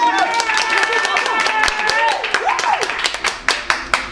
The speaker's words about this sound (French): Applaudissements s'il vous plaît pour le bar Le Scandale.